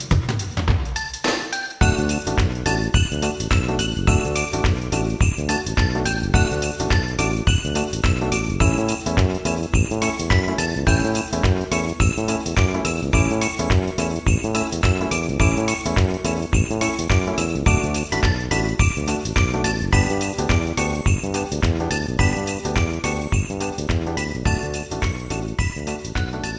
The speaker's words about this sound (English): So, the game for this week is... Christmas. Oh, cue some little jingle bells.